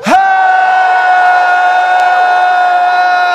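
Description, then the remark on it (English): A church audience shouts to God together after a reading of Psalm 47, in one loud, sustained roar lasting over three seconds, with a steady ringing tone running underneath the whole time. “Shout to God with a voice of triumph. Come on, let's shout.”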